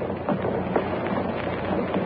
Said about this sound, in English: Now they are rising. Now the whole plaza is rising. Fathers are lifting their small children. The plume fans on the platform are motionless. There's no sound but the shuffle of shoe leather.